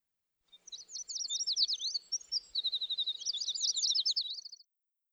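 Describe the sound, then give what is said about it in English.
A bird sings a bright, rapid song of high chirps and trills, with a fast buzzy run in the middle, clear with no one talking. “The birds will fly away when they see him, said Grandpa Pig.”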